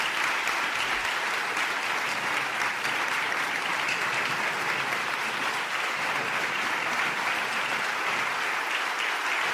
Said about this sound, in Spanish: Tras estas emotivas y sentidas palabras, el aula 6 se llenó de enérgicos aplausos.